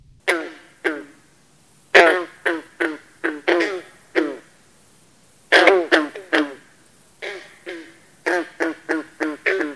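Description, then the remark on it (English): A bronze frog calling over and over with short, twangy, plucked-sounding notes like a loose banjo string, delivered in loud, uneven bursts with brief pauses between them. “The call of the bronze frog sounds like the plucking of a loose banjo string.”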